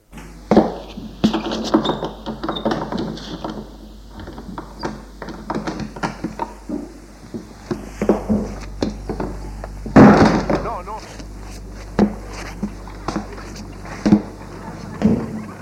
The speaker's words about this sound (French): Et il a ouvert la porte.